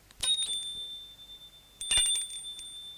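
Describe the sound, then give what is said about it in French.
A doorbell rings twice, each a bright, high-pitched metallic chime with a sustained ringing tone that lingers between the strikes. No one speaks. “Une heure plus tard, il sonne à la porte.”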